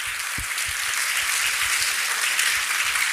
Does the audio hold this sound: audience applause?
yes